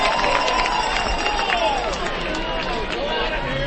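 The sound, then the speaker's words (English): A hometown baseball crowd at Smokies Stadium gives a Bronx cheer, jeering and booing after the batter Sims takes a fastball for a strike: a dense, steady wall of many voices with drawn-out, wavering calls rising above the roar for the whole stretch. “Sims takes a fastball outer half in for a strike and a Bronx cheer from the hometown crowd.”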